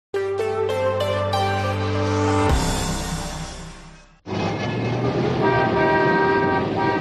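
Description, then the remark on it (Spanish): Loud car horns blare in a busy street, a series of short toots giving way to long sustained honks over a steady rumble of passing traffic, with a brief pause before more honking. “La tierra día y noche está llena de coches.”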